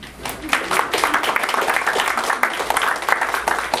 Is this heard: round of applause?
yes